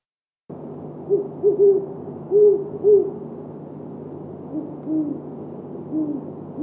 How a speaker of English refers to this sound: Today's phenology is about great horned owls.